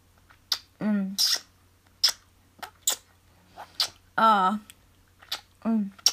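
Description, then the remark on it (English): A string of wet kissing smacks at an irregular pace, some drawn out with a voiced "mwah" hum, with no spoken words. “Do I have to kiss you to death to get you to tell me?”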